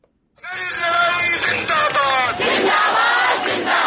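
A large crowd of student protesters in New Delhi, India, chants and shouts together against a new citizenship law, many voices blending into a loud, sustained roar with rising, harmonic calls that swell and continue without a break.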